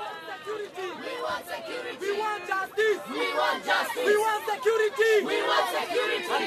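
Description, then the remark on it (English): A large, hostile crowd at a political rally shouts and jeers continuously, many overlapping voices raised in an angry, agitated roar that stays loud and dense throughout, with no clear individual words. “the crowd doesn't seem to be so friendly.”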